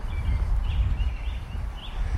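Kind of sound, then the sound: bird, carolina wren singing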